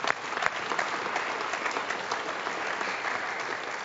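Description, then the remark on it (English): Steady applause from an audience clapping for God's grace, a dense wash of many hands clapping at a constant level throughout, with a few louder individual claps near the start and no one speaking. “And you can clap for God's grace.”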